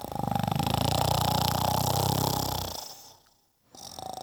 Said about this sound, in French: Comme il n'en pouvait plus de fatigue, il s'endormit très vite et vint à ronfler. Effroyablement.